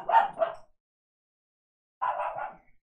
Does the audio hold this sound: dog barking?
yes